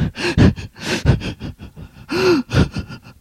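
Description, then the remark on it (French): A woman sobs in an uneven series of gasping breaths and wavering whimpers after being slapped by a man, her crying rising and falling in short bursts with no words spoken. “Elle pleure.”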